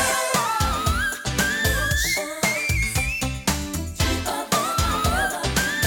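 A woman sings extremely high, whistle-register notes that glide and climb over a loud, steady pop backing with punchy drums and bass, with no speech.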